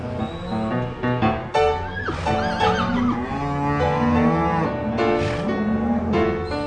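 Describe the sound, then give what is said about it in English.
Several cattle bawl and moo at once, loud, during a branding where calves are branded on the hip, castrated, earmarked and given shots; their long overlapping calls fill the whole stretch with a restless, continuous din of livestock. “We're doing a job that needs to be done as far as the cattle business, but also we're having a blast.”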